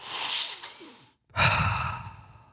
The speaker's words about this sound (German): Stephanie Joanne Angelina Germanotta, alias Lady Gaga, schließt noch einmal die Augen. Sie atmet tief ein.